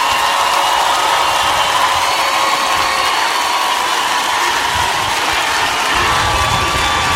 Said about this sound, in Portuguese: Tardezinha, por favor, os aplausos de vocês pro autor da obra.